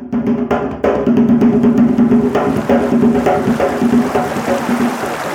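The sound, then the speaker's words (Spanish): Water rushes and splashes continuously, a steady loud churning flow with occasional sharper surges, from a fast stream along a rural path that must be crossed to reach the school. No voices are heard. “Por lo menos aquí en nuestra vereda hay unos chorros que hay que atravesar para cruzar a la escuela.”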